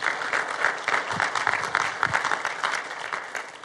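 A church audience at a morning service applauds steadily to welcome first-time visitors, many hands clapping at once in a dense, even patter that holds for a few seconds at a fairly loud level.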